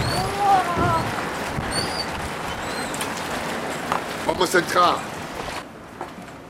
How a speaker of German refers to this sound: draußen ist es nass. Der Wind bläst mich fast weg. Der Regen peitscht mir ins Gesicht.